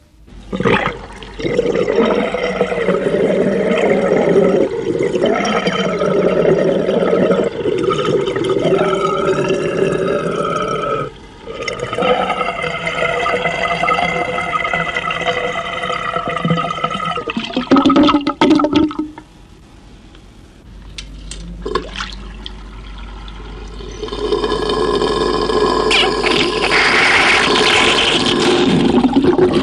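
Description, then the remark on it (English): A wash basin at the Taunton Hotel drains with a steady, musical droning note that wavers for about twenty seconds, pauses briefly, then ends in a loud, rushing gurgle. No one speaks. “Musical in note, with a much subdued final gurgle, it was a joy to play, and I am sure caused little offence to those occupying the room next door.”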